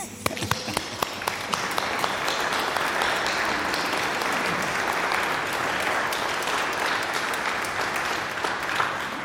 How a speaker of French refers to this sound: Alors, par une acclamation, je pense que ça vaut la peine.